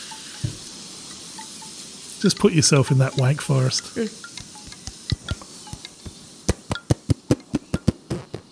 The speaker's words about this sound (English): I think we need to go out with the sounds of bamboo wind chimes.